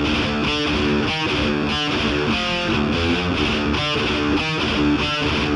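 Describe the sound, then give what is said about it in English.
A loud, heavily distorted electric guitar with a 1980s-style distorted tone plays a driving riff with chugging, rhythmic chords and sustained crunchy tones, bright and saturated with no voices present. “To more of a 1980s distorted guitar sound.”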